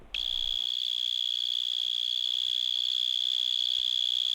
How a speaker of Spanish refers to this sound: Esto es un grillo topo, también conocido con el curioso nombre de alacrán cebollero, y es uno de los insectos que tenemos aquí en la península ibérica que emite el sonido más intenso. De hecho, pueden llegar a ser ensordecedores